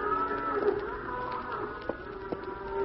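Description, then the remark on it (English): Several cows in a herd low restlessly on a breezy night, in overlapping, drawn-out moos, their deep tones rising and falling over a steady background murmur, with a couple of brief sharp clicks near the end. “Cows are getting restless, Hoppy.”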